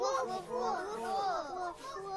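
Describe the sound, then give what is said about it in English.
A group of children imitating a puppy on cue, yipping and whimpering together, their high-pitched voices overlapping in rising and falling squeals for a couple of seconds. “Now let's all do the puppy sound.”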